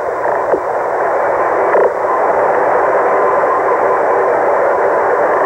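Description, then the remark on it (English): Steady, dense radio static from a spacecraft's transmission on a mission to the moon hisses throughout. It is a broad crackling wash with a couple of brief clicks and sweeps near the start, loud and continuous with no voices coming through. “Still a great deal of static from the spaceship. That is expected.”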